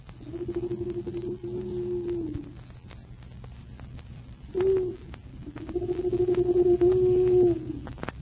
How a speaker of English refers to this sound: It wasn't anything but an owl.